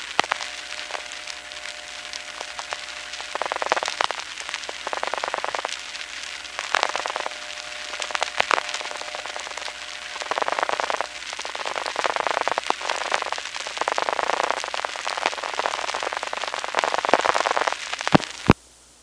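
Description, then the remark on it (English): A crackly, hissy phone line carries faint, steady dial tones in the background, broken by bursts of noise and clicks as other callers dial. “And here you can hear other people getting dial tones and dialing.”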